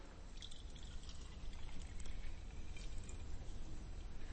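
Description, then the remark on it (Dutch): Water is poured in a steady, continuous stream for a few seconds, a soft rushing trickle with faint splashy detail, fairly quiet, with no one speaking. “Nou, dit water, dat is de kracht van God.”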